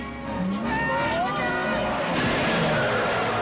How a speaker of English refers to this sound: He ditches the cattle prod as the virgin gets in the passenger seat and Pep gets in the back. He jumps in behind the wheel, and they drive off.